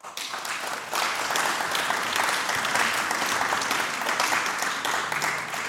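An audience claps steadily, a dense wash of many hands that swells after the first second and stays loud and even until the end, with no voices standing out.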